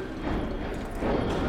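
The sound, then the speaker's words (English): Horse hooves clip-clop along a street in Boston's North End, a crowded waterfront district of commercial and residential blocks busy with laborers, residents and commuters, within a dense, steady wash of outdoor background noise, the footfalls blending into the ambience rather than standing out sharply. “Laborers, residents, commuters, horses, they're all just going about their business.”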